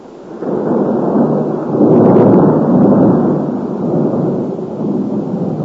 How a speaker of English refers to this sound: You know, it's the first dedication service I've ever been in with thunder and lightning. It's exciting. God counts this as just small firecrackers for children.